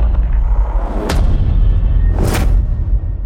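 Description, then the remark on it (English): Deep, dramatic cinematic hits boom twice over a constant heavy low rumble, each impact carrying a bright noisy crash on top. Loud and close, with no voices. “There's also the reverse cymbal. And lots of different types of hits.”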